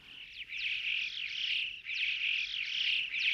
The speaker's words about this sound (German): Zum Schluss ein Schwarm Dohlen.